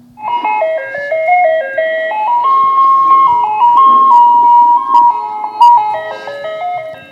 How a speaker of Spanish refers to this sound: Entonces escuché algo, el carrito de los helados.